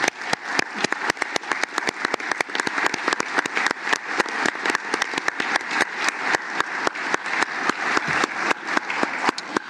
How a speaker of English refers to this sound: I'm not going to make a big deal and call off names or even ask you all to stand, but I would like a round of applause for the many, many staff members who work tirelessly on our behalf.